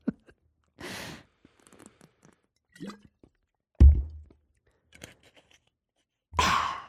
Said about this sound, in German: Ja, ich muss erstmal einen Schluck Wasser trinken.